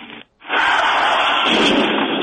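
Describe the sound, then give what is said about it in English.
After a brief drop to near silence, a loud explosion erupts and rolls on as a dense, sustained roar for about two seconds, overwhelming, with no voices. “Oh, my God. Is that an explosion?”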